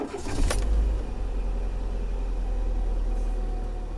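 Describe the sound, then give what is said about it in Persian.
An old car's engine rumbles low and steady as an elderly couple set off along a road in it, with a brief rattle and clatter near the start before the continuous droning hum settles in. No one speaks. “پیرزن و پیرمرد وسایلشون رو جمع کردن، سوار ماشین قدیمیشون شدن و تو جاده به راه افتادن.”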